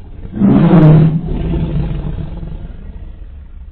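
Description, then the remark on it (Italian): A tiger lets out one loud growling yowl that swells and breaks off after about a second, then trails into a low, rumbling growl that continues steadily to the end. “e mise un secondo miagolio molto più forte del primo.”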